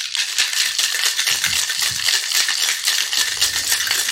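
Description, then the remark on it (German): A cocktail shaker holding vodka, coffee liqueur and espresso is shaken hard and steadily to build foam, ice rattling inside in a fast, continuous, bright clatter that stays loud throughout with no talking. “Interessant, dann schüttel mal los. Ja, mal ordentlich schütteln.”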